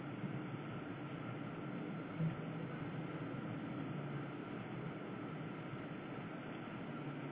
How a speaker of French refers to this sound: Camion qui fait ça. ça a passé.